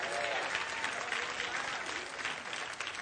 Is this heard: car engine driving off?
no